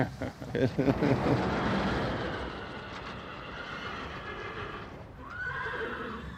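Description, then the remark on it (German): A horse neighs with a long, shrill whinny while hooves clip-clop on a stud farm with 70 to 80 horses, a dense stable-yard bustle with another whinny rising near the end. “Das ist ein Gestüt. Wir haben zwischen 70 und 80 Pferde.”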